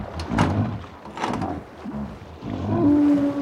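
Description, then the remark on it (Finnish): Rough, rumbling roars swell and fade, then a foghorn siren begins sounding near the end: a loud, steady, deep tone that holds for almost a second. The siren is switched on from a tower in fog. “McNan, pane sireeni soimaan.”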